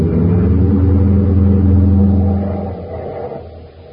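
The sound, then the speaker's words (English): A car engine roars loudly, a steady low droning hum for a few seconds before easing off and fading toward the end, as the car is driven straight toward a fuel tank, with no voices present. “I'll follow as soon as I head the car right for that fuel tank.”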